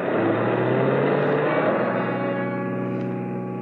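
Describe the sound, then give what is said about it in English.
A car engine runs with a steady, loud hum and faint whining tones, easing slightly toward the end as the car pulls back onto the road. No one speaks. “After I got the car back onto the road again, I felt like a fool.”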